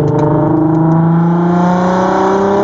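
V8 car engine revving

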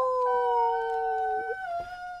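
dog howling

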